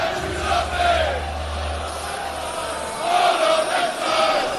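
A large crowd of football fans at a North London derby roars and chants in unison, a dense wall of voices that swells twice, with a low rumble underneath and no single voice standing out.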